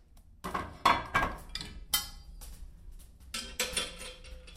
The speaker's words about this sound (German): Mir zuliebe feuert sie den Holzofen ein.